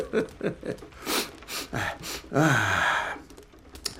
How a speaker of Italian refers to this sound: Tiro su di tabacco, e poi tossisco naturalmente.